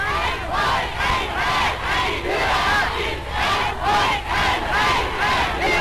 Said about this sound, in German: Hitler wird bei seinem Einmarsch in Österreich mit Jubelkundgebungen empfangen.